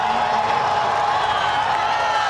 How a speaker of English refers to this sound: It's the moment of totality. Listen to this crowd. Here we go. We can see it. Plunged into darkness.